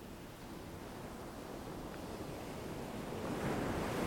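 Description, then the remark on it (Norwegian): Steady ocean surf washing onto a shore, a continuous broad rush of water that swells slightly louder toward the end, with no voices present. “La bølgen komme inn i kroppen din.”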